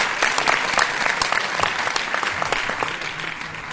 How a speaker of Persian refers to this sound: محبت کنید تشویقشون بکنید که یکم هوای جدید.